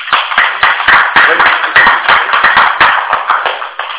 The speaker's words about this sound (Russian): Аплодисменты.